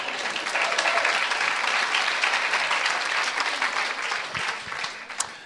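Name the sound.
audience applauding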